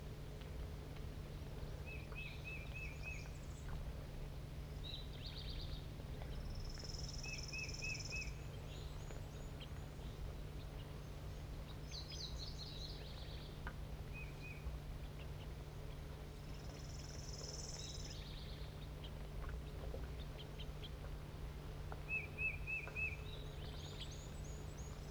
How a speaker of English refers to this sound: The juvenile is begging from the male, who's an orange bird.